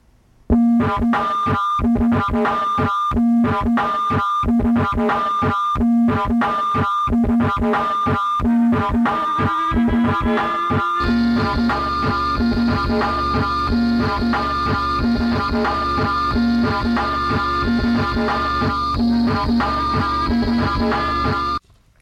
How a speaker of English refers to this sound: Let me play a clip of another song of theirs, and it gets ruined like 20 seconds in.